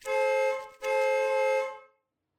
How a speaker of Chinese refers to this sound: 不过窗外响起的喇叭声把我从射精边缘拉了回来。